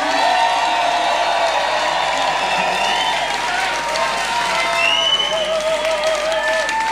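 A large concert crowd in Liverpool cheers and applauds steadily for the DJ, with whoops and shouts rising over a dense, continuous wash of clapping that stays loud throughout.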